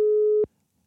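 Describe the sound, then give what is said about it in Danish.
A single steady telephone ringing tone sounds clearly for about half a second as a call is placed to a man, a flat mid-pitched beep that cuts off abruptly into near silence. “Så er det den her mand, vi ringer til nu.”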